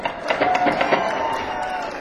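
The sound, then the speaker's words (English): An audience cheers and claps in a dense, steady roar, with a few sharper bursts of whoops and claps early on before it settles into a continuous wash of crowd noise. “Don't cheer.”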